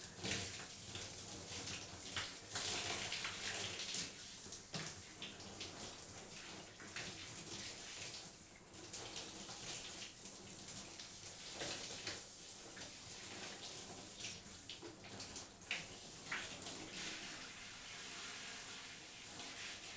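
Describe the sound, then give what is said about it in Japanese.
Warm water pours steadily to rinse thick, fluffy shampoo lather off a person being washed, a continuous rushing hiss with small splashy surges throughout and no voices. “さっきまであんなに泡がモコモコだったのに一気に流されてく。”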